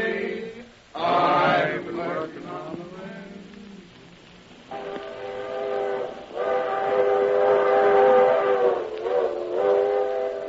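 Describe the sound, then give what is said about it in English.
A small locomotive, the only one working a congested railroad yard, sounds its whistle in loud, sustained blasts, several in a row, over a steady mechanical rumble, with no voices. “Congestion on every track, and only one tiny locomotive to do the work.”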